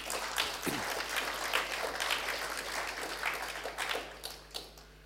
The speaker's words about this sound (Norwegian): Og en applaus for Guds ord.